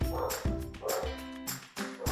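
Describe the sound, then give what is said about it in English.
A dog barks repeatedly in short, loud bursts, roughly every half second, with a slightly yappy, excited tone. “We're dealing with dogs.”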